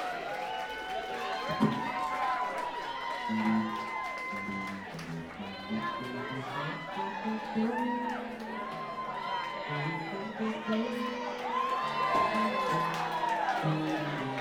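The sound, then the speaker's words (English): A crowd cheers and shouts, many overlapping voices whooping and calling out in a steady, fairly loud roar that carries on without a break for the whole stretch. “So that was a cheer.”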